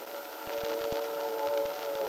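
train passing by

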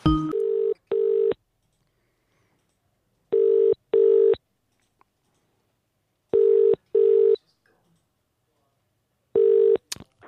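telephone dialing and ringing

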